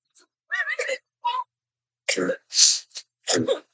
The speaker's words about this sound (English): Oh, girl. Cough it out, honey.